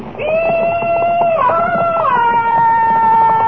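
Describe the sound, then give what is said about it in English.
A single loud, drawn-out war whoop given as a yell of welcome to riders: a high, sustained yell that holds its pitch, then steps down twice into a lower, wavering howl lasting several seconds, with no talking. “Will you teach me how to yell like that?”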